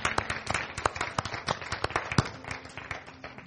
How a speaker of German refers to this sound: Lass uns den Menschen einen Applaus geben, die sich entschieden haben. Das ist cool.